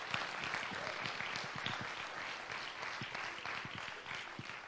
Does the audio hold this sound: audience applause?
yes